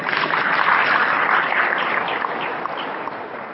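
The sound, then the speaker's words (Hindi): A group of children clapping together, a small child among them clapping happily, a dense, steady patter of many hands that stays fairly loud and then eases off slightly toward the end, with no voices. “छोटा बच्चा भी ताली बजा रहा है खुशी में।”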